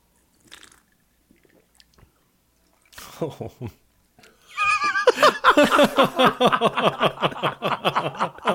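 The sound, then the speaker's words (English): Sips of a fizzy soda mixed drink: a few soft, wet slurps, then a longer run of loud, rapid slurping pulses as liquid is drawn in, with a faint fizz underneath. “All right, Sips.”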